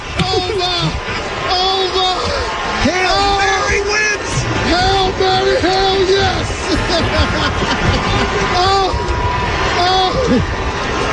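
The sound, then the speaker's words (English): A stadium crowd claps and cheers without pause after a walk-off touchdown by Jaden Daniels. A dense, loud wash of applause sits under many voices yelling and whooping, rising and falling in overlapping shouts throughout. “Now they're just clapping.”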